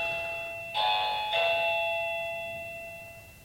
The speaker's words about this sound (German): Es klingelt. Ich mache mal kurz auf, wir reden dann aber weiter.